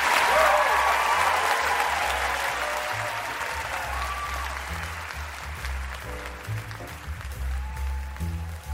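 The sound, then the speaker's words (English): Sustained audience applause for Ben and Jerry (Ben Cohen and Jerry Greenfield), a dense wash of clapping that starts loud and gradually fades, with faint voices and a low musical tone underneath toward the end. “Let's hear it for Ben and Jerry.”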